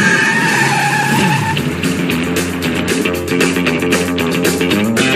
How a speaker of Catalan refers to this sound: Mita'l, ja es fica el cotxe. Mira com corre.